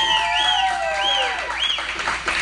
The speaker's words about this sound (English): Let me get this crowd involved. We have not beat Camden County since 1999. Can I hear a little bit from the crowd out here?